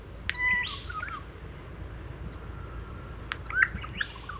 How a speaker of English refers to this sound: It's very simple, like a lot of Australian bird songs, not like birds in Europe that go on for 20 to 30 seconds. It's a short song, 2 or 3 seconds in length.